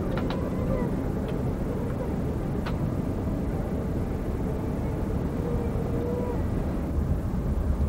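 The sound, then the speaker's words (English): A steady, deep roar of airliner engines fills the cabin, a constant low drone with no pauses, holding at an even, subdued level throughout, the engine sound having dropped as the airliner descends over New York State. “The engine sound has dropped, as you can probably hear.”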